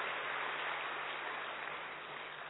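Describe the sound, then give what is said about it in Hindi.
A large audience seated in Diamond Hall claps steadily at the speaker's call, a dense, continuous wash of applause that stays at an even level throughout, with no voices heard over it. “नशा भी चढ़ाओ और ताली बजाओ कि बाबा ने हमको कहाँ बिठाया।”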